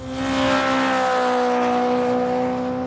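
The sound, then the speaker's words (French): A truck speeds along the road in front of a family's house, where it hits the family cat, Church; its engine roars loud with a steady droning hum that holds for a few seconds, no voices present. “Lui, il est resté pour le boulot et manque de bol, le chat de la famille, Church, se fait percuter par un camion. Et vous devinez bien où ? Sur cette fameuse route, en face de leur baraque.”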